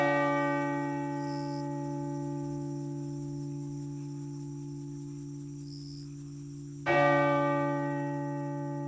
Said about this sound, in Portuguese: A … conduz o ouvinte a um passeio imaginário, a um jardim de sinos de diversos formatos, tamanhos e espessuras